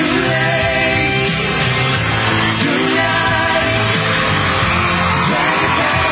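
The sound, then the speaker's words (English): A dense, loud wash of yelling and whooping voices, like a crowd screaming, runs continuously behind a busy musical recording with no clear pauses. “What is that screaming in the background?”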